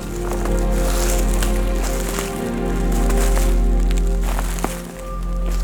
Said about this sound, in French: Brindilles desséchées. Tapis de feuilles mortes. Vibration du vent et de vos pas.